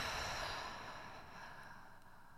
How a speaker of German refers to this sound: Und dann atmen wir nochmal gemeinsam ein und wieder aus.